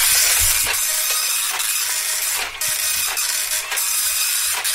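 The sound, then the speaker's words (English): A very slow printer prints out game scores, running steadily with a continuous hissing whir, punctuated by regular mechanical clicks and thumps as the paper feeds through, fairly loud with no voices. “It's a very slow printer”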